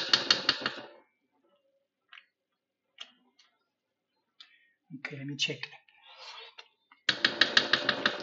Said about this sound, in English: The wooden spoon is getting a beating. I have this, it's a tablespoon, you know, but wood that I carry with me.